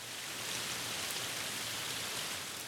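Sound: pouring rain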